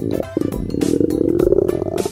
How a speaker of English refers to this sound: A lion's roar can be heard from 5 miles away.